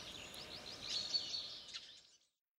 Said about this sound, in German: Ach, hör doch lieber, wie schön die Vögel zwitschern.